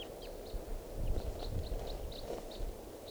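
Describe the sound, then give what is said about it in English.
A bird calls with a string of short, high-pitched notes, fairly evenly spaced and faint, over a steady low rumble of background noise. “It's recording, I hear calling. I think of that same bird.”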